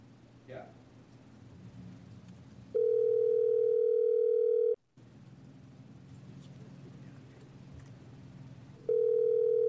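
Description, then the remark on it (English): A loud, steady telephone dial tone from a conference phone at a Senate committee meeting sounds twice, first for about two seconds, then again near the end, separated by muffled room noise and faint background voices. “Our other committees, we have one of those funny phones in front of it.”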